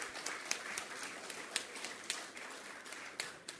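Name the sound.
applause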